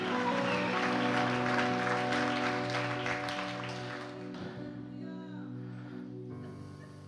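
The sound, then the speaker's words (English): An audience claps and shouts loudly for the Lord during a morning service, over held keyboard or organ chords for about four seconds, then the applause thins and fades while the sustained chords continue. “Can somebody give the Lord a clap and a shout this morning in this place?”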